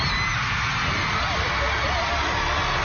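A woman screams excitedly amid a loud, roaring crowd, her high shrieks rising and wavering through the dense cheering for a few continuous seconds.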